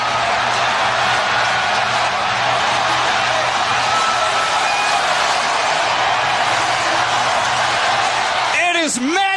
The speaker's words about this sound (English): Pitch, fly ball, deep right, back to back. Listen to that crowd.